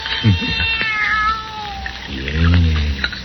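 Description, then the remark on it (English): A young kitten meows in thin, high-pitched, wavering cries, fairly loud. A deeper, drawn-out sound follows near the end. “Nobody's going to hurt you, kitty, kitty.”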